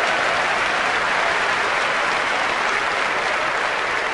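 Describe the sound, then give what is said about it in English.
Sustained audience applause, a dense steady wash of many hands clapping at an even loudness throughout, with no voices standing out above it. “Give her a round of applause, all right?”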